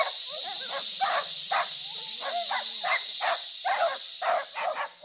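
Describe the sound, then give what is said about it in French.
A huge, long snake's steady, sharp hiss runs through the whole stretch as it slowly advances toward a village's central square, loud, with a series of short rasping bursts pulsing over it in an uneven rhythm. “Un serpent, un énorme et long serpent, s'avançait lentement vers la place centrale du village.”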